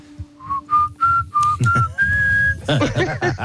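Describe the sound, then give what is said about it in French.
A person whistles a short, catchy melody imitating the pan flute jingle of a Herta advertisement, a series of clear rising notes ending in a long held tone, followed by overlapping chatter and laughter. “Voilà, bah oui, c'est Herta, oui, c'est la flûte de Pan, hein, c'est version sifflet”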